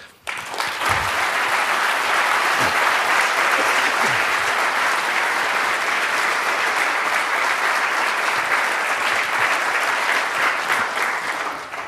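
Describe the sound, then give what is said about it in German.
Sustained audience applause after a lecture, steady and loud throughout, a dense wash of many hands clapping at once with no voices standing out. “Ich denke, dem Applaus kannst du entnehmen, dass der Vortrag wirklich sehr gut war.”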